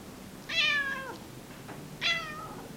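A cat meows twice, two clear, high, drawn-out cries about a second and a half apart, over a quiet room hum, in an apartment in Warsaw where the cat lies on a chair by the living-room table.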